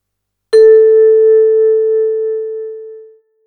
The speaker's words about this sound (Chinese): 在每个听音视力结束后，你会听到这样的铃声。